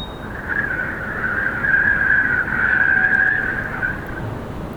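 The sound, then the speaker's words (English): Strong gusty wind roars low and steady while a sustained, wavering high-pitched drone hums over it like rubber strings resonating in the wind, coming from the top of a building beside a rusty cylindrical cofferdam on the Mellemarmen headland, swelling in the middle and fading near the end. “It is very windy and there is a sound which I can't quite identify, coming from the top of the building to the right of the cofferdam.”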